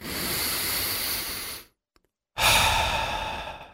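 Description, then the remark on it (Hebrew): A long, deep breath drawn in, a brief pause of silence, then a full, airy exhale, both broad and breathy with no talking, in an advertisement for a Tadiran air-purifying air conditioner. “יכולנו להכניס פה עוד פרסומת, אבל כשיש לתדירן מזגן שמתהר את האוויר, אנחנו מעדיפים פשוט לנשום.”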